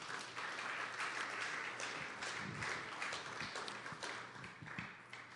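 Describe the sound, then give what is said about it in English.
An audience at a church service applauds together as a clap offering to the Lord, a dense, steady wash of many hands clapping that holds at an even level for several seconds, with no voices over it. “Let's give the Lord a clap offering here, please.”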